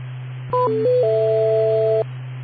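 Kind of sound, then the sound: signal or alarm, telephone dialing tones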